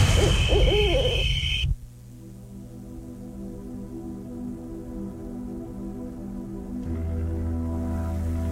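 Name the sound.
owl hooting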